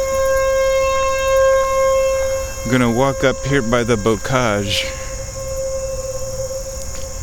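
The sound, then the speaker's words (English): Tornado warning sirens drone outdoors as a loud, steady tone that holds through the whole clip, with a man speaking briefly over it partway through. “And man, the sirens are pretty loud here. We must be pretty close to the tornado sirens.”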